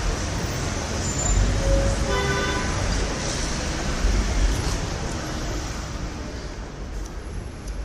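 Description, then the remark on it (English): Busy, steady roar of traffic at the Port Authority bus terminal with engines rumbling, and a short horn honk sounding once early on, with faint background voices mixed into the din. “Okay, I'm going to go on the Port Authority bus terminal right now and see if...”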